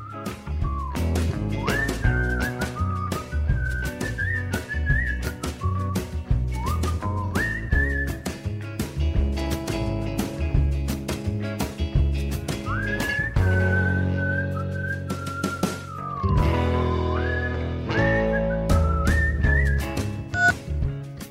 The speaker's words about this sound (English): A great song that has whistling in it